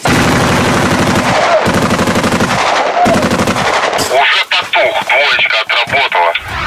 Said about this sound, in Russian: Чтобы не допустить прорыва, армии ДНР приходится открывать ответный огонь из стрелкового оружия.